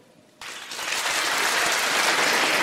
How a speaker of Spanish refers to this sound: Aplaudan los que no son de España.